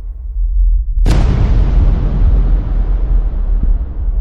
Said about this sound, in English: A bright flash. Everything went white. Then an enormous bang split the world.